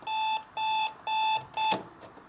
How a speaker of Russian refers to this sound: Во время звучания будильника можно переключаться между ними. Это как бы радио. Все тесты. А это как бы зумер.